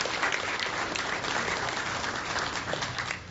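A crowd claps steadily, a dense, sustained wash of many hands with a bright crackling texture and even loudness throughout, with no voices standing out.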